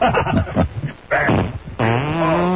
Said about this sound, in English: Yeah, she's not responding. This is Stedman Graham, your boyfriend. And this is the Governor. I'm leaving this. She's farted.